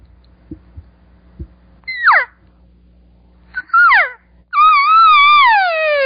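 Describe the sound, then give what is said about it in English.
Three imitated elk cow calls: two short, softer mews that slide downward in pitch, then a longer, louder, higher call that wavers and drops at the end. A few faint thumps come before them. “I am going to give 3 cow calls. I give 2 soft, and 1 a little bit higher.”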